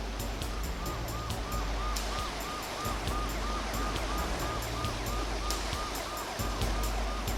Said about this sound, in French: Après, on n'entendit plus que la pluie tomber, puis le bruit des sirènes dans la nuit.